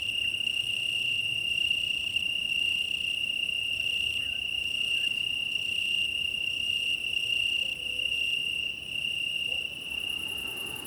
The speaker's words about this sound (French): Donc pour cause de vent, je n'ai pas pu rester sur le petit monticule que j'avais repéré avec les grillons. Avec les grillons italiens.